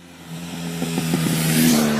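Road traffic noise: a car engine hums and revs with a rising tone, growing steadily louder over a broad rushing background, with no voices.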